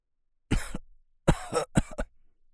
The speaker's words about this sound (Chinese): 当时老爷子咳嗽了好几声